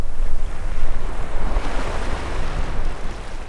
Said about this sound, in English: In a town called Punta Morales, the wind howls across the shoreline.